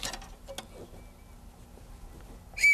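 A short, loud, high whistle blast from a toy neighborhood trolley sounds right at the end, preceded by quiet clicks and handling noises with no talking.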